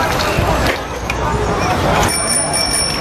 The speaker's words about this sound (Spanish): Como un ciclista con un timbre de bici.